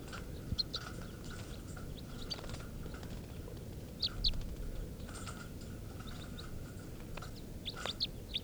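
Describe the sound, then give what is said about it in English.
Test recordings of two male birds, number 436 (type 3) and number 437 (type 4), sing in short, high chirping phrases and sharp whistled notes, the louder one being 437, repeating irregularly over a steady low rumbling background. “These are test recordings of birds 436, the type 3 male, and 437, the type 4 male.”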